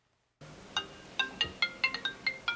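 An office telephone rings with a quick electronic warble, about nine short chirping tones in a steady rapid pattern over faint room noise, clear, with no one speaking, in the office of Kumamoto Basketball Co., operator of the Kumamoto Volters, as a call from the B.League comes in.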